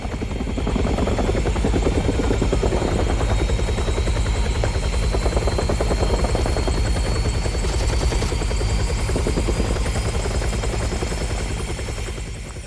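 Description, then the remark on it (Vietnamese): A helicopter's rotor beats a steady, rapid chop, loud and continuous throughout, with a whining turbine tone layered above the thumping blades. “Trực thăng đã bắn lầm vào cái trường Phước Đức, nơi bộ chỉ huy của liên đoàn 5 biệt động quân đang họp và gây ra một số những cái thương vong.”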